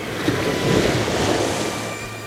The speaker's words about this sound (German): Die drei Detektive rannten zum Strand und erklommen die Felsen, an denen hohe Wellen aufschlugen.